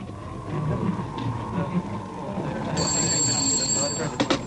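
A telephone bell starts ringing partway through in the RAF Kinloss duty room, a bright, shrill trill, over a steady low rumble and faint background murmur.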